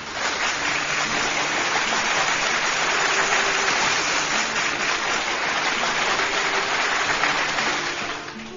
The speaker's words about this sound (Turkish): Kocaman bir alkış da sana gelsin.